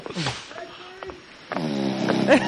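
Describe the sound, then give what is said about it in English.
Loud, rasping snoring of a man who has passed out asleep by a pool, with a deep, rumbling drone; a shorter snort comes first, then a longer, heavier snore swells in the second half and grows louder toward the end. “That is serious snoring.”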